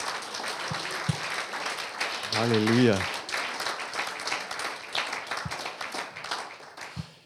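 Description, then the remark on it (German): An audience at a Christmas Eve church service breaks into sustained, dense applause for Jesus lasting the whole stretch, with scattered cheers and a voice calling out a brief sung-like exclamation partway through. “Wollen wir am Anfang Jesus einen Applaus geben, der auf diese Erde gekommen ist?”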